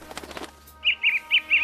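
A brief burst of fluttering wings gives way to four bright, evenly spaced bird chirps, fairly loud, with no voices present.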